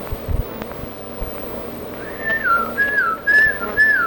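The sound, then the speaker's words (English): A person whistles to call horses out of the pasture: four short, repeated up-and-down whistled phrases in quick succession, fairly clear over a steady low rumble of background noise. “Whistle for them.”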